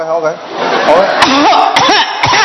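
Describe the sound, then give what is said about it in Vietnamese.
An elderly woman with bronchitis coughs deliberately to demonstrate her cough, three or so harsh, raspy bursts spaced about half a second apart, mixed with strained voiced sounds, fairly loud. “Bà ho như thế nào? Con cứ ho mà con ho.”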